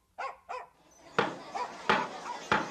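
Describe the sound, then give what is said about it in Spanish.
A dog named Firulais barks about five times: two quick, higher barks, then a pause before three louder, sharper barks spaced roughly half a second apart. “No porque unos pocos perros transmitan la rabia, vamos a decir que el perro ya no es el mejor amigo del hombre.”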